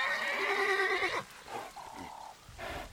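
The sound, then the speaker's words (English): A wild horse on an island in Anzali Lagoon whinnies loudly, a long wavering neigh lasting about a second, followed by a few softer snorting calls and a brief final whinny. “The inhabitants of this calm, beautiful island include wild horses, water buffalo, and several other fauna species.”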